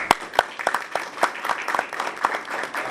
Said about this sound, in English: and we want to give her a round of applause.